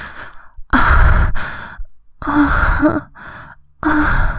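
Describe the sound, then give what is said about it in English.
A breathy voice gasps, whimpers and pants in several uneven bursts, with drawn-out moaning sighs between short pauses and no words spoken. “I gasp and whimper against your ear. panting and moaning.”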